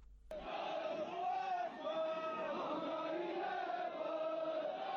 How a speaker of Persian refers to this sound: این فریادهای مردم کشمیر در حمایت از جمهوری اسلامی و محکوم کردن جنایات اسرائیل و آمریکا در حمله به ایران است.